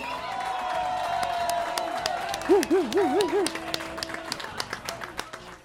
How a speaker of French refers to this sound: Attachez vos ceintures car ce soir, ça va groover comme jamais à la Cité Métisse. Je vous demande d'accueillir chaleureusement, sous vos applaudissements,